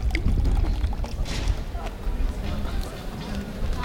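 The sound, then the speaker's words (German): A woodruff-flavoured fizzy drink being poured and sipped while walking: steady hissing, bubbling fizz with splashy crackles, over a low rumble and faint murmuring voices. “Und eure Brause natürlich trinken.”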